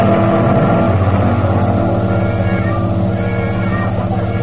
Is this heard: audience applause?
no